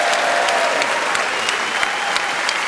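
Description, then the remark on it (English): A crowd applauds the joint winners of a panel game, Jazz Brandreth and Clement Freud, with dense clapping sustained at an even, fairly loud level throughout and no voices over it. “A round of extra round of applause.”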